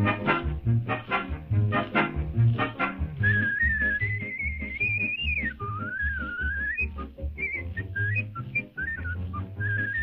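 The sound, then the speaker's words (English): A man whistles a clear, steady melody over rhythmic background music. The whistling comes in after a few seconds of instrumental intro and carries the tune prominently to the end. “I think there's a little music here, but let's hear him just whistling for a second.”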